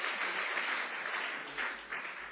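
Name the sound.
audience applause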